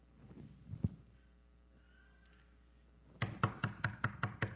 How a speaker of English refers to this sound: You hear the knocking, and you hear this voice, if you will open the door, I will come in and eat with you and you with me.